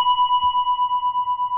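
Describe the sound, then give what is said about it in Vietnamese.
A single hard strike on a Buddhist temple bell, then a steady, loud ringing tone with a slow pulsing waver that carries on without fading. No voices. “Một cái loại kim khí này nó có cái chuyển động để khi đó mình thỉnh một tiếng mạnh nó không bể.”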